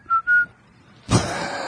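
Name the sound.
human whistling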